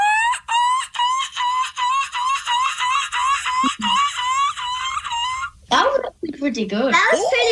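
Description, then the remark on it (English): A child's voice imitates a seagull, giving about nine quick, shrill, wavering cries in a steady rapid series, then breaking into a brief noisy burst of laughter or talk at the end. “we were hoping maybe we could do our seagull impressions for you guys”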